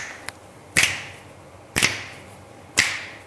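Three sharp, crisp hand claps land about a second apart in a steady rhythm, each with a brief ringing tail, preceded by a faint tap, with no talking.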